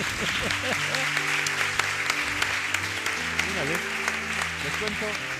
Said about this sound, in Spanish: Ya se nos va con su gente el médico del lenguaje, se lleva el verbo de viaje, don Isaías Lafuente. Un aplauso, por favor.